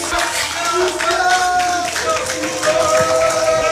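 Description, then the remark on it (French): A studio audience applauds loudly and steadily for a few seconds, a dense wash of many hands clapping with faint voices or tones running underneath, applauding a contestant's correct answer in a quiz. “On peut l'applaudir très fort.”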